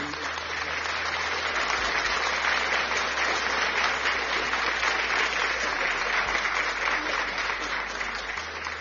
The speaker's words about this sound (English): Là où tu es, ma sœur, mon frère, commence encore à applaudir pour le Saint-Esprit. Applaudis pour le Saint-Esprit.